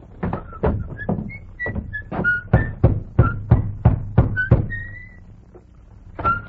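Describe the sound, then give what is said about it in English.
Knocking on the door of a small white cottage in the little town of Carsonville by a man in army uniform: a long run of sharp, hollow raps in uneven bursts, with faint high whistle-like tones in between, then a pause and one last knock. “He rode up to a small white cottage, dismounted, slapped dust from his army uniform, then rapped on the door.”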